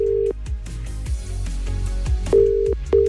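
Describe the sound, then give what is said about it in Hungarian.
A steady electronic tone on a phone line sounds in repeated bursts, ringback as a radio host calls a listener's chosen recipient, someone celebrating a name day, live on air, with music playing loudly underneath. No one speaks. “A kívánság műsor fordítva is működik, tehát hogyha megadod nekem a címzett telefonszámát, akkor én rácsörgök élőadásban.”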